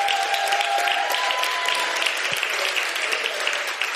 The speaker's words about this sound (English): Clap it up.